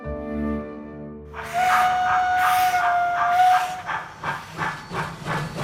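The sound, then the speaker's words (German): A steam locomotive sounds a long, steady whistle over a loud hiss of steam, then chuffs rhythmically as it pulls away. The train is loud, and no one speaks. “Mit der Dampflok.”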